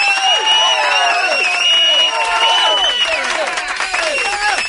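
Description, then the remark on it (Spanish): A loud crowd bursts into applause for a listener, with clapping blended into a steady wash of cheers and whoops that carries on for several seconds, full. “Un aplauso para este oyente que aún no lo sabía.”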